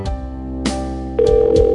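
A telephone rings with a steady, buzzy electronic tone, its pitch stepping up partway through and growing louder; no voices are heard.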